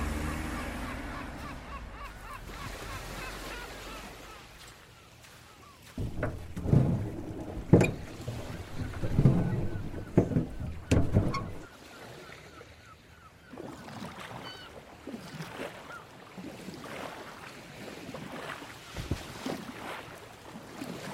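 A boat engine rumbles steadily on open water during a boat tour from Bandar Turkaman Pier to Ashurada Island, with wind and splashing bursts rising in the middle, and a few honking calls, like geese, heard faintly.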